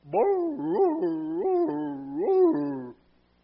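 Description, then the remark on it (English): A neighbor's basset hound lets out a continuous series of rising, wavering howls and bays, loud, lasting about three seconds with no talking over it. “He would just bark and he would howl.”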